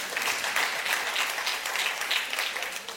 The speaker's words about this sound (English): Y'all can clap for that. That's good news.